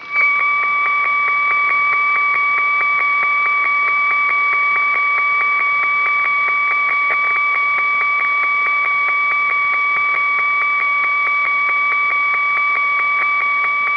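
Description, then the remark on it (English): Steady electronic radio uplink test tones, with an uplink center frequency of about 17 megahertz, hold two pure pitches at once, a lower and a higher whine, sounding continuously and loudly for the whole stretch with a faint rapid pulsing and a hiss beneath. “So here's the tones.”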